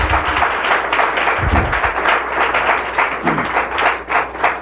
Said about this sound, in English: Well, I'd like us all to, before we get to the questions, give both of these gentlemen a round of applause for their hard work.